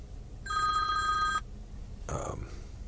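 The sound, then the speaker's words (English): A phone rings with an incoming call: one steady, bright electronic tone lasting about a second, clear, followed by a short rustling burst of noise. Nobody speaks. “And a phone call coming in.”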